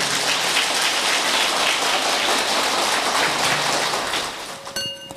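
Loud, sustained applause from an audience at a Buddhist lecture, praising Thuận Điền pagoda in Thái Bình province: a dense crackle of many hands clapping that holds steady for several seconds before thinning out at the end.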